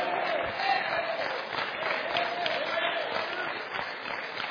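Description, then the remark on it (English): A large audience in a church claps steadily in a dense, continuous wash of applause that holds at an even level throughout, without any voices rising above it. “I hope those of you clapping will remember that when I start collecting cell phones.”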